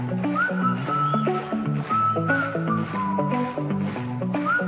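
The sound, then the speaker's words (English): A high, thin whistle carries a gliding melodic line over a steady, rhythmic instrumental accompaniment that moves in repeating stepped chords. It plays continuously with no talking. “… on the whistle, come on.”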